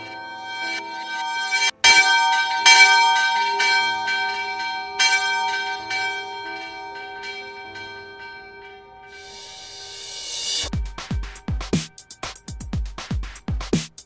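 A church bell rings out in a few loud strikes, its tones hanging and slowly fading, before a burst of rapid, sharp percussive hits takes over near the end.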